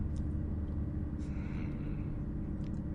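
A steady, low bus engine rumble heard from the back seats of a moving bus drones continuously, with a dense, even hum and no voices or breaks, just the constant vibration of the moving vehicle.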